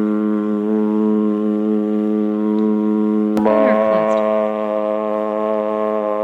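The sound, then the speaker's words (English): A single sustained, steady-pitched vocal tone, hummed with the mouth closed, then opened about halfway through so it turns brighter and fuller with a slight click at the change. “It sounds like you started with your mouth closed and then you opened your mouth.”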